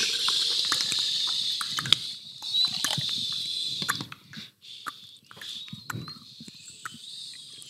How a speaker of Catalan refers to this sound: El riu sona dia i nit, amb el seu xiu-xiueix de pedres.